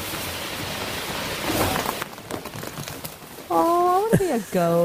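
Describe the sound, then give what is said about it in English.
Baby goats in pajamas scurrying around: a rushing hiss gives way to quick, light, irregular hoof taps on a hard floor, then a few high, wavering bleats at the end. “Little baby goats in pajamas. And they're fast. Oh yeah, you can hear them scurrying around on the.”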